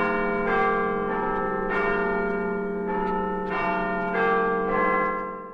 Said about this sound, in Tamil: மொத்தம் 2826 பாகங்களுடனும் 57 விசேட தொழில்நுட்ப நுணுக்கங்களுடனும் உருவாக்கப்பட்ட அந்த கை கடிகாரத்தின் மணியோசை உலக அளவில் புகழ்பெற்ற லண்டனின் பிக் பென் கடிகார மணியோசையை நினைவூட்டுகிறது.